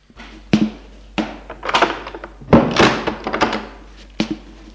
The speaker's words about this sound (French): Il entre, elle ferme la porte.